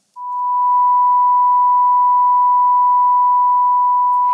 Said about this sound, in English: A pure tone is a sound wave with a single frequency. When two pure tones with the same frequency are sounded together, their sound waves are the same. They are matched, and the tone you hear is the same pitch and sounds in unison.